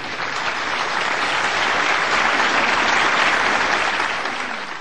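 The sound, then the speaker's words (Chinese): A large audience applauds steadily to invite Supreme Master Ching Hai to give a teaching, a dense, even wash of many hands clapping that holds loud throughout and tapers slightly at the end, with no voices standing out. “现在就请各位来宾、各位大德以最虔诚的心、最热烈的掌声恭请上清下海无上师为我们开示。”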